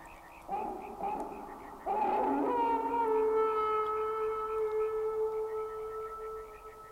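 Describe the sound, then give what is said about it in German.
A dog howls in long, mournful wails: a short rising cry, then a loud sustained howl that holds its pitch for several seconds, with faint rhythmic chirping behind it. “Heulen eines Hundes.”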